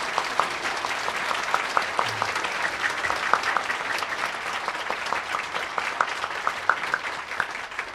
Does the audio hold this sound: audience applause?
yes